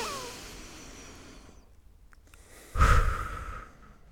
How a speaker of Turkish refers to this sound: Nefes önemli hayatım. Kesinlikle. Gel hep beraber bir nefes alalım.